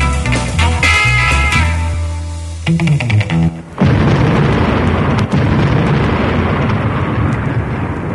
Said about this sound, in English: so that was not an explosion. That was supposed to be clouds, thunder.